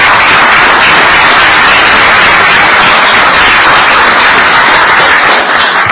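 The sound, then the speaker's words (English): A steady round of applause from many hands for the Transit Partners at a Maryland state government meeting with the Governor, a dense crackling wash of clapping that stays loud and even for the full six seconds with no voices. “So they deserve a big round of applause.”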